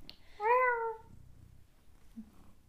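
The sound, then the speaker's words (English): A single clear cat meow rises and falls over about half a second, loud against a quiet background with faint low room noise. “if you hear cat's background, it is Mia”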